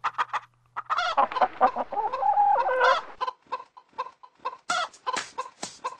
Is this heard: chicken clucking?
yes